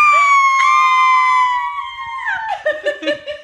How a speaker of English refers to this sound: Cue …'s scream.